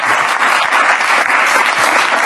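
Steady, dense applause from an audience, loud and continuous for a couple of seconds, a bright wash of many hands clapping with no voices standing out.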